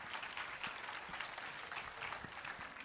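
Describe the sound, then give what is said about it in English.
A crowd applauds steadily, with dense overlapping claps forming a continuous, fairly loud wash of sound with no voices over it. “Go ahead, give him a good clap offer, would you?”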